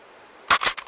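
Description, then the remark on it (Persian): A quick volley of gunshots, three sharp cracks in under half a second, loud against a quiet, faintly hissing background; shots fired in a restaurant, breaking one of the chairs. “ببینم گلوله خوبه؟”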